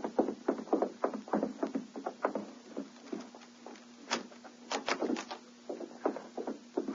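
A run of sharp clicks, knocks and rattles as a ship's cabin door is unlocked and opened for a customs inspection, with a steady low creaking tone underneath in the second half; no voices.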